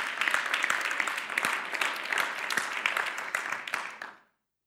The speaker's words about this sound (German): Gib doch mal Jonas noch mal einen Applaus, er macht das so gut.